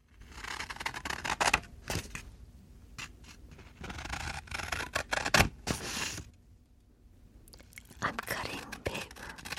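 Crisp scissor snips cut through hair or paper in irregular bursts, with soft rustling and hushed, whisper-like texture between the cuts and a brief quiet pause midway.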